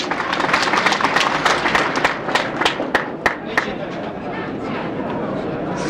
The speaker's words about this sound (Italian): Un applauso, grazie.